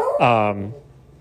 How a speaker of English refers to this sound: I apologize. It's the magic of making radio at the home. You got your dog barking at the mailman.